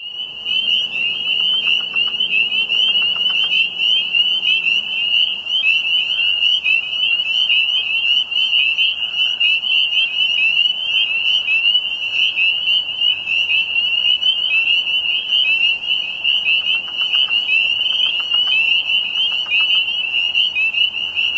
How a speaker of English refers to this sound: Now, the interesting problem about this is that I have been going back through the different frog calls to try and identify these, and I'm not finding anything that seems to be a particularly close match.